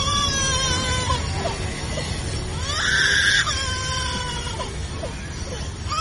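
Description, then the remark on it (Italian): A lyrebird imitates a crying baby, wavering wails rising and falling over a steady low rumble, with one louder strained cry in the middle and no talking. “Non è il pianto di un bimbo, meglio, è il pianto di un bimbo imitato dall'uccello lira.”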